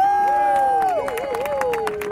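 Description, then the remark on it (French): A crowd claps and cheers steadily as a speaker is welcomed on stage, with sharp scattered claps over a dense wash of noise and a long, sustained whoop that slides downward in pitch partway through. “Faites du bruit pour elle.”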